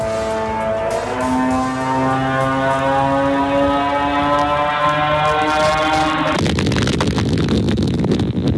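A Shahed drone attack in Ukraine: the drone's small propeller engine drones with a steady, buzzing hum that shifts slightly in pitch for several seconds, then a sudden loud explosive blast gives way to rough, roaring noise.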